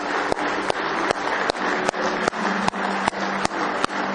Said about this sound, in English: Somebody say praise the Lord. Let's give Him a real big hand clap of praise this morning.